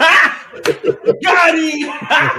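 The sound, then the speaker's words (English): A few sharp slaps crack out in quick, uneven succession, tangled up with loud, excited voices that carry on over and between the hits. “The slapping gets me every time.”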